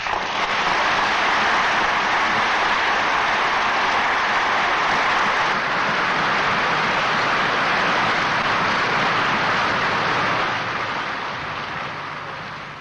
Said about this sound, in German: Unter dem Beifall der Abgeordneten, die sich von ihren Plätzen erhoben haben, geht nun Bundeskanzler Dr. Konrad Adenauer auf seinen Sitz im Plenum zu, den er nun in Zukunft einnehmen wird.